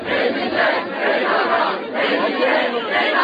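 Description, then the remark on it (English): A large protest crowd calling for action against the PKK shouts and chants together, a dense, loud wall of many voices that swells and dips steadily without any break for the whole few seconds. “At home, the crowds are baying for action against the PKK.”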